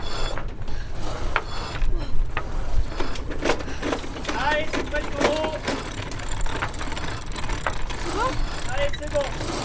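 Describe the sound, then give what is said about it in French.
Continuous mechanical clicking and rattling of ratcheting pulleys as the sail of a sailboat is hauled up, with short squeaky tones and a steady low rumble underneath; no one speaks. “Allez, on hisse la voile. Ça monte, allez, on hisse.”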